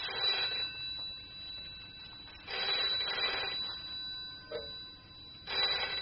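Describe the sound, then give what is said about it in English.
A telephone bell rings in repeated bursts of metallic trilling, separated by short pauses, clear against otherwise quiet surroundings. “The phone's ringing, dear.”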